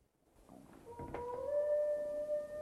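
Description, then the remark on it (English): A single wolf lets out a long, mournful howl from up in a canyon in the evening, swelling in after a brief scuffle of quieter sounds and holding a steady, drawn-out note. No one speaks. “He listens to the howling.”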